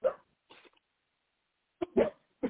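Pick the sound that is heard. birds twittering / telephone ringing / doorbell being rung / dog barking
dog barking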